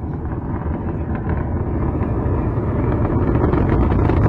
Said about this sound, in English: There is a brilliant streak of flame going up into the sky right now, and Space Shuttle Discovery is lifting off. Now the sound waves are just starting to reach us here at the liftoff site.